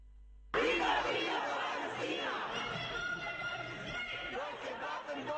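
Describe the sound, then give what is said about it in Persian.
A large crowd of protesters at a pro-Palestine demonstration in Berlin, Germany, the first of the new year, shouts and chants slogans together, loud and sustained, starting abruptly after a brief quiet moment and continuing as a dense wall of voices. “در آلمان مردم در نخستین راهپیمایی سال جدید میلادی حمایت از فلسطین را فریاد زدند.”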